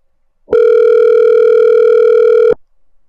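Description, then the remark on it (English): A telephone rings on an outgoing call to Lance Storm, made during a break, which he does not answer: one steady electronic ringback tone lasting about two seconds, loud, with no voices around it. “Because I called him during the break. He didn't answer, of course.”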